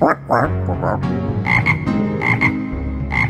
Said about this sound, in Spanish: Pero cierta mañana, los sapos lo vieron muy feliz a la orilla del agua. Croaba a toda voz y una enorme sonrisa se dibujaba en su boca.